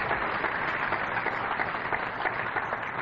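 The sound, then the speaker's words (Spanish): An audience claps together for Jesus in sustained, dense applause, a steady wash of many hands with no single claps standing out, continuing evenly for about three seconds with no talking. “¿Cuántos le dan un aplauso a Jesús por eso?”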